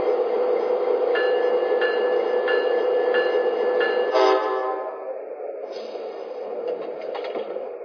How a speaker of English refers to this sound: arriving from New York Penn Station on track 2, train number 50, the Cardinal.